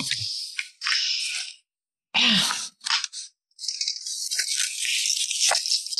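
Two dice rattle in bursts of bright, clattering shaking with short pauses between them, the longest stretch running steadily to the end. No one speaks.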